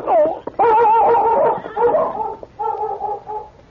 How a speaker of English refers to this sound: That dog's still alive and running around like he's plenty excited.